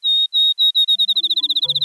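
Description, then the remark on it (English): A field sparrow sings a series of clear, high whistled notes that start slow and evenly spaced, then speed up into a rapid trill, like a bouncing ball. Faint low tones join near the end. “Field sparrows aren't as common today as they were in Aldo Leopold's day”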